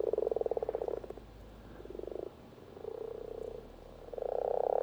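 A chorus of common frogs croaks in repeated purring bursts, several overlapping calls rising and fading over a steady background hum, fairly close and moderately loud with no voices.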